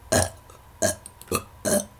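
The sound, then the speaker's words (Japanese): Four short, throaty burps in quick succession, each a brief rough belch with small pauses between them, loud with no talking. “私がゲップを食らわせてドラゴンになれるのね。”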